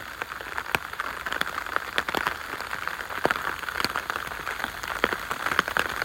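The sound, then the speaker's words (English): Steady rain shower pattering down on a woodland path, a continuous hiss dotted with sharp, irregular drips and drop impacts at moderate level, with no voices. “Is that blue sky over there that I can see beyond the shower, or am I just being even more optimistic?”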